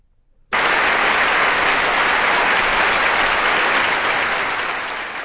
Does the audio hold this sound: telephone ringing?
no